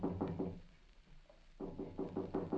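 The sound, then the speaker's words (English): Feeble, soft knocking on the door of a home on Lorena Street: a cluster of four quick raps, a brief pause, then another run of five taps, muted. “a feeble knock is heard at the door.”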